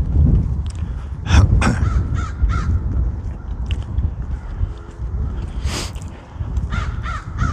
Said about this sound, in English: Perhaps you can hear the crows. I'm just supposing. They're pretty loud. The one's in the tree right above my head.